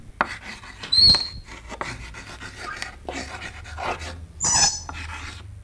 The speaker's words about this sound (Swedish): Du undrar vad mitt hatljud är för någonting. Och då är nog det här klassiska att en krita som gnisslar.